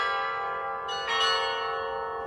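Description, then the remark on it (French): The 17th-century hammer-and-keyboard carillon of the Church of Our Lady of Loreto in Prague, designed by the clockmaker Neumann and having 27 bells, rings out in overlapping metallic tones, fresh strikes landing on a sustained, shimmering wash of harmonics. Moderately loud with no voices. “vous entendez derrière moi est l'un des plus célèbres, puisqu'il s'agit du carillon de l'église Notre-Dame de Lorette à Prague, un carillon du XVIIe siècle à marteau et à clavier, conçu par l'horloger Neumann et qui comprend pas moins de 27 cloches.”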